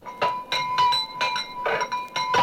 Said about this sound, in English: Now, Bambi, pick up your bell and ring it. Come on now. You have 2 bells there, darling. Ring one.